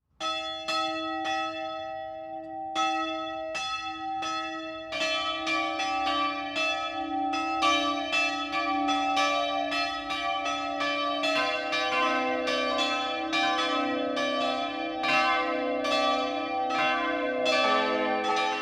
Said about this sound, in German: Das Mittagsläuten kommt heute von der Epiphaniaskirche im unterfränkischen Eschau.